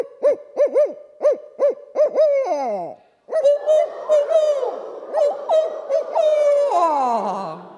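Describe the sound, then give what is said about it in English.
One voice gives a rhythmic run of owl-like hoots ending in a falling slide, then a group of people calls back, mimicking the same pattern in a dense, overlapping chorus of imitated owl hoots that trails off in a descending wail. “Now we're going to mimic that same pattern with our owl face on. I'm going to call first, and then you call back.”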